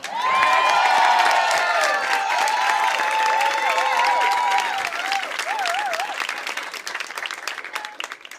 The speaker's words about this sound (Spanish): Pido um aplauso muito forte